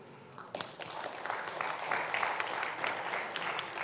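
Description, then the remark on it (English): A crowd breaks into applause, many hands clapping in a dense, steady patter that swells after a quieter start and stays loud and sustained without any voices. “So are you just going to clap?”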